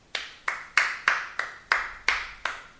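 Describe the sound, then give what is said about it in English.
A single person claps their hands eight times at a steady, even pace, each clap sharp and bright with a brief ringing tail. No one speaks. “All right, so I want you to listen in with your expert ear and tell me whether this clapping is good clapping or bad clapping.”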